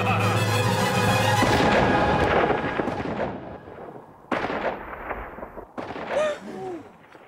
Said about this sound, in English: And then again, when they like, when the Lord shoots the stuffed bunny towards the end, you hear that gunshot kind of ricochet throughout this tiny town, and people quietly freak out.